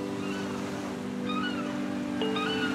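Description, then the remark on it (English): Seagulls cry out in a few short, mewing calls over a steady wash of ocean surf at a beach, with no voices present. “We've been jumping in the waves and lying on the warm beach, listening to the seagulls.”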